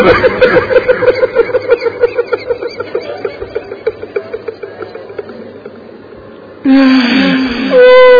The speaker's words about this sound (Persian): دخترم گریه تو قلب منو داره آتیش میزنه.